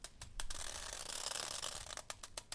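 A plastic bag is crinkled and scrunched, giving a steady, bright crackling rustle with sharper crackles bursting through toward the end. There is no talking.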